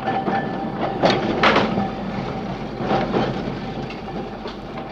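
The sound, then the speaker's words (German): A tram rumbles and clatters along the rails, with a thin, steady metallic squeal running through the noise as the wheels grind round a bend, continuous. “Das Geissen von einem Tram, der nach blind durch Kurven schleift.”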